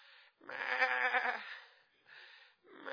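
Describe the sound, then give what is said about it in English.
A sheep lets out one loud, wavering bleat lasting about a second, with shorter and fainter bleats just before and after it. “And I come down, I could hear him calling. Here now. Yeah, sheep, yeah.”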